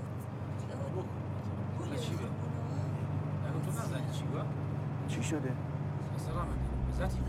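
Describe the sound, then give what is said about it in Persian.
An old car climbs an uphill dirt track, its steady, low engine rumble droning throughout, with people talking over it and a deeper shift in the engine tone near the end. “برم پایین ماشین هول بدم کور کنم؟ خب کوره راه سربالاست میگه. ماشینم که میبینی چجوریه.”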